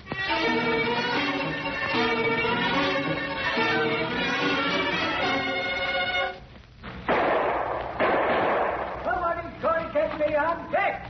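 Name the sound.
gunshots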